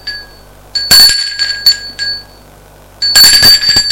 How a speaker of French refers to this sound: sonne à la porte de l'appartement de sa mère. Pas de réponse. Il ressonne plusieurs fois.